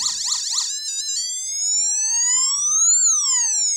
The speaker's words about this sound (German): Da können wir unterschiedliche so Sirenen und so weiter machen.